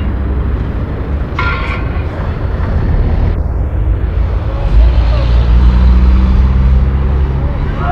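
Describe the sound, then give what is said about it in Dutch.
A truck engine idles, a loud, steady low rumble that swells slightly toward the end, with a brief higher mechanical whine partway through, as the truck stands stopped at the Valk restaurant by the motorway, wanting to drive on and refuel. “Een vrachtauto die door wil rijden en graag wil tanken, staat hier stil, krijgt de stencil.”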